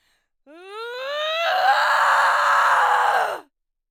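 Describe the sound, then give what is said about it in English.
A man performs a single loud battle cry into a microphone in a home studio, his voice rising in pitch into a strained, sustained yell that holds for about two seconds before cutting off. “Now, let's perform a battle cry.”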